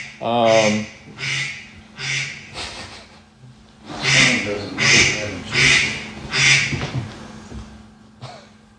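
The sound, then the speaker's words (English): A series of loud, raspy duck quacks, about nine in all, coming in two rhythmic bursts with a short pause between, clear with no talking. “The duck season.”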